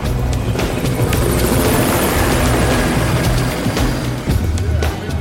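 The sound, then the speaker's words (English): Police helicopters hover overhead at Skid Row, the rotor thrumming loud and continuous with a low rumbling wash, while faint street noise sits underneath. “As we arrived, police helicopters hovered above.”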